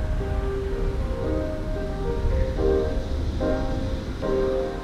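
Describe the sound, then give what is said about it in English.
Steady ocean surf and blowing wind make a continuous wash of noise, with soft sustained tones shifting every second or so on top. No one speaks. “With the wind blowing. And the ocean in her waves flowing.”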